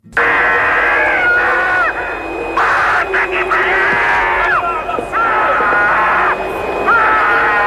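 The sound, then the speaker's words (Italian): A racing driver screams inside his helmet after crossing the finish line to win his home race in Brazil, a series of long, loud, strained yells broken by short breaths, sounding boxed-in over a steady hiss and whine. “E tagliato il traguardo, si sfoga in un urlo nel casco che è rimasto storico.”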